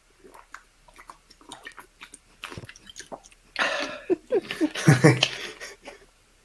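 Loud drinking of water by a person, offered to viewers as a bit of ASMR: wet mouth clicks and soft sips at first, then a louder run of gulping and slurping swallows in the second half.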